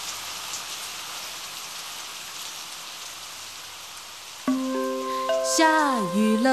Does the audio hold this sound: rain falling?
yes